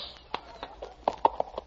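animal, horse hooves clip-clopping

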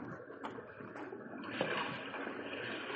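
nature, babbling brook water flowing

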